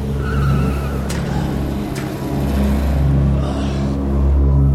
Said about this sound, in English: Ludlow sits up gingerly as the Koreans drive his and their car away.